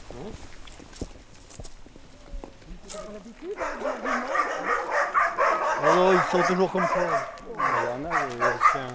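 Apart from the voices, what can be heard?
dogs barking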